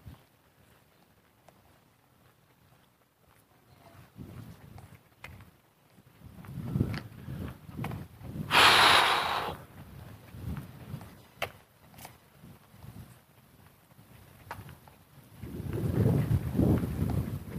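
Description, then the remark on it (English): A strong breeze gusts across the microphone in low, rumbling surges that rise and fade, with the heaviest buffeting near the middle and again toward the end; no one speaks. “At least the breeze is stronger down this way.”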